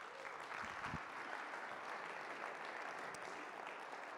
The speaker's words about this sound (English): Why don't you come up and share with us? Give him a round of applause as he comes.